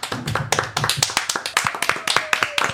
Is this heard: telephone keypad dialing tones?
no